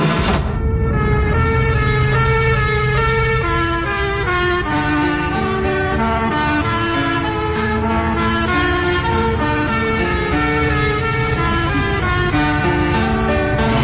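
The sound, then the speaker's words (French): A loud police car siren, its bright electronic tones stepping through a melodic pattern of changing pitches. It sounds continuously for the whole stretch, with no voices over it. “Ouvrez fenêtre et écoutez sirène de voiture de police inspirée d'une de mes compositions.”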